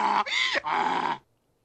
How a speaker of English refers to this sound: All that is generic, royalty-free donkey sound. You can find it all over YouTube. That was not something generated from the show.